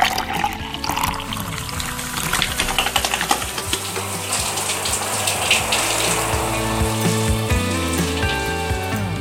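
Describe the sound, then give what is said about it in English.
Water runs steadily from a tap, a continuous rushing splash with faint clinks and clatter around it, with no one speaking. “so I figured that on nearly every day of the week, I use water maybe 5 times in at least 3 different locations in my house or yard, all before like 6:30 in the morning.”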